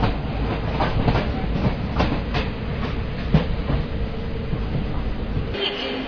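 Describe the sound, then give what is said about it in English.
A train on a rural route approaching Calcutta, passing through Howrah Station on a rainy day, rolls steadily along with a heavy, continuous rumble and irregular rhythmic clacks from the wheels over the rails; the roar drops away abruptly in the final half second. “So we're currently passing through Howrah Station, having arrived”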